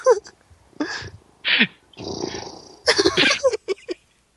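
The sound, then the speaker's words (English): A baby tiger growls and purrs in a string of harsh, rumbling bursts, with one longer steady rumble in the middle and short sharp snarls toward the end. “It's like it's very distracting with the baby tiger in the room.”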